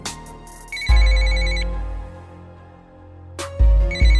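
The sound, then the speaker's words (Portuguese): A phone ringtone plays in repeated tonal bursts with a steady electronic rhythm, fairly loud, with brief pauses between rings and no one speaking, as a call to a friend goes unanswered. “Porra, mano, o cara não atende o telefone, velho. Tentar ligar aqui de novo.”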